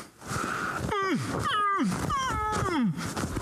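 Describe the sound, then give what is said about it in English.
A person imitates a lion's roar, letting out three loud, drawn-out calls that each slide downward in pitch, one right after another with no talking. “You know, that lion could only go, all that lion could say was,”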